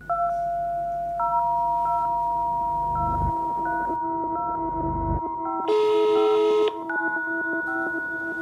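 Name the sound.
telephone call tones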